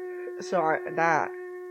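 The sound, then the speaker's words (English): A voice imitates a hair dryer with two short, buzzing, wavering vocal bursts with a breathy hiss, over a steady low electrical hum. “Can you make the noise of the hair dryer?”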